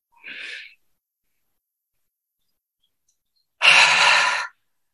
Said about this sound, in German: Stellt euch vor, mit der Ausatmung haucht ihr einen Spiegel an und atmet so lange aus, bis ihr dann das nächste Mal wieder einatmen möchtet.